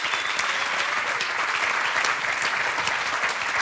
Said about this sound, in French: On peut les applaudir.